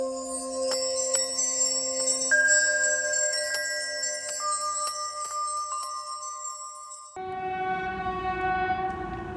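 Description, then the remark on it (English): A small train's horn blares in Mongolia in long, sustained chords over steady rumbling rail noise, the tones shifting midway, then a different horn note takes over near the end as the train passes. “I wasn't going to record, but a train's coming and I figure only Mongolia would have this kind of train.”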